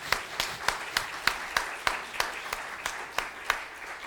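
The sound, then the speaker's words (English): An audience gives a hand clap to thank the Lord at a church anniversary, with a steady rhythm of sharp, evenly spaced claps standing out above a continuous wash of many hands clapping, moderately loud and without any talking. “So maybe we just give the Lord a hand clap and say, thank you, Lord.”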